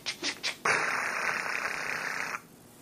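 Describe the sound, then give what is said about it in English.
A voice imitates the buzzing interference of a Nextel phone: three quick pulsing bursts, then a loud, steady, harsh electronic buzz held for nearly two seconds before cutting off. “Someone with a Nextel phone was probably too close.”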